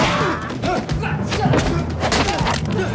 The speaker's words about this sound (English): Carter is smacked in the face, but kicks a table across the carpet, knocking a guard off his feet.